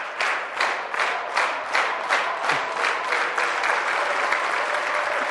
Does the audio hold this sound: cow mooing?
no